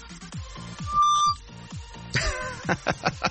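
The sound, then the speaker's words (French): A phone ringtone plays on its own for an incoming call, a bright electronic melody of quick repeated notes with one sustained tone, ending in a run of rhythmic chiming bursts, fairly loud. “On m'appelle et je vois mon nom.”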